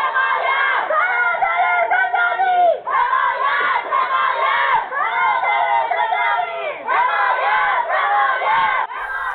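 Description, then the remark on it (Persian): Women prisoners in Ward 5 of a prison in Iran, heard over a phone call, chant together in protest against the prosecutor's action, in loud, sustained unison, their voices rising and falling in repeated phrases with brief breaks between lines, steady and continuous throughout. “در پی این ممانعت گروهی از زندانیان زن در بند 5 با اعتراض به عمل دادستان خواستار همصدایی زندانیان مرد در بندهای 4 و 6 در این اعتراض شدند.”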